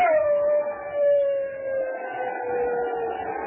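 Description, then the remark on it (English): A man lets out a long, shrill imitation of a wolf howl while waving a burning pine branch over his head, one sustained wavering cry that slides slowly downward and holds loud for several seconds. “Then he set fire to the pine branch, waved it over his head, and at the same time gave voice to a shrill wolf howl.”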